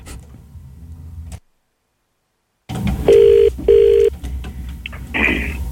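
A telephone ringback tone sounds twice in steady, evenly spaced bursts over a low hum, heard through a phone line on an outgoing call to a man, after a short stretch of silence.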